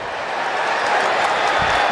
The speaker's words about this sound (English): And you're going to hear this crowd go crazy with the call from ….